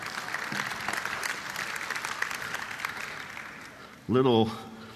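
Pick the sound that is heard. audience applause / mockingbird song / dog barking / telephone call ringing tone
audience applause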